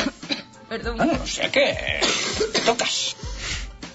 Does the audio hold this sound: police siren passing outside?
no